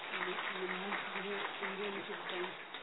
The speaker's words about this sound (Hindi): मैंने अभी भी देखा कुछ रिसर्च वर्क की हिंदुस्तान की premier institution DRDO defence research organisation के साथ जुड़ करके कई प्रोजेक्ट आप लोगों ने किया, ये हमारे लिए संस्था के लिए देश के लिए गौरव की बात है, इसके लिए जोर से ताली बजाए।